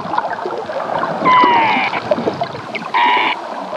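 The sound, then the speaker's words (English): Two eerie, whistling calls of an unidentified underwater animal off Deer Isle, the first longer and gliding slightly downward, the second shorter, ringing out over a steady watery hiss and rumble. “The group records everyday sounds, like birds and waves and docks, but also things we cannot usually hear, like this unidentified underwater animal sound off Deer Isle.”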